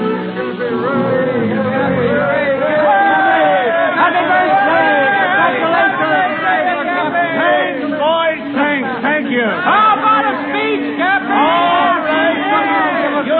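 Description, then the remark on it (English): A large crowd of sailors and ship owners chattering and calling out over one another in a dense, lively hubbub on the steps of the Blue Star Line shipping offices facing the wharves, congratulating the president on his 60th birthday; steady and fairly loud throughout with no single voice standing out. “On the steps of the Blue Star Line, Cappy Ricks, the president, faces a huge crowd of sailors and ship owners.”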